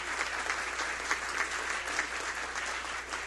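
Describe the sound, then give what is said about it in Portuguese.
A crowd at the 36th Pomeranian festival in Santa Maria applauds steadily on behalf of the City Council, a dense wash of many hands clapping at an even, moderate loudness with no voices rising above it. “Mais uma vez, uma salva de palmas em nome da Câmara de Vereadores.”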